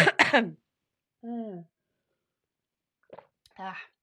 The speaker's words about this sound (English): Excuse me. I just need a good old cough.